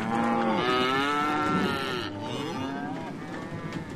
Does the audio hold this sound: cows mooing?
yes